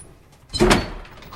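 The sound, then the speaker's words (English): A woman closes a small bathroom cabinet door, which swings shut with a single soft thud and a brief rattle, followed by a faint lingering rustle. No voices. “With a sigh, she closes the cabinet door.”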